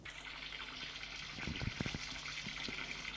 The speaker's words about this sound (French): et se douche avec le savon.